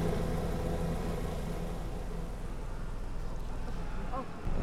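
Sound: helicopter flying overhead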